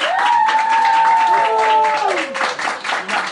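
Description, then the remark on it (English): A crowd applauds the head coach of the Frederica Academy Knights with steady, dense clapping, joined by a couple of long, sliding whistles and cheers, and the ovation stays loud before dipping slightly at the end. “Let's give a great round of applause for Brandon Derrick.”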